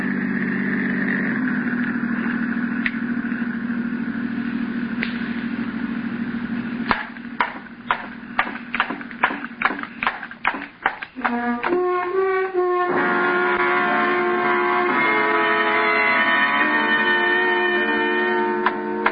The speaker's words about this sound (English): The car approaching has a spotlight. It is a patrol car. Quickly.